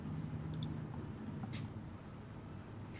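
A few light clicks and taps of dice clattering briefly on a table for a wisdom roll in a game, the die ending stuck and cocked at the end of the table, come through faintly over a low steady hum with a short pause between them.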